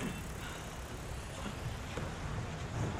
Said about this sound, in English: She steps closer to an arriving car.